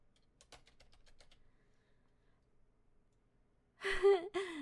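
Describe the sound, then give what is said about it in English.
A quick, quiet run of three computer keyboard keys pressed in order clicks in a short burst, then after a pause someone lets out a loud, breathy sigh. “Just hit those three keys in order. Like this.”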